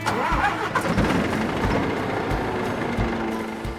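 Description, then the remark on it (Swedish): A heavy diesel engine cranks and rumbles to life, its deep, throbbing idle pulsing steadily and loudly, with no voices present. “Och mineralerna som min laptop och skärmen framför mig och all min utrustning består av, de har körts upp ur gruvan med gruvlastbilar på 300 ton och fraktats med långtradare och lokomotiv, alla med stora mullrande dieselmotorer under plåten.”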